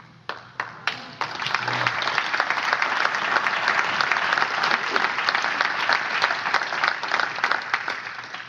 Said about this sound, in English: I'll tell him of your applause next week when I see him.